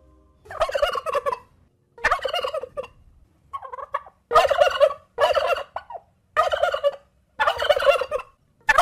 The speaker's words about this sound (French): Voilà, vous avez reconnu le glou-glou du dindon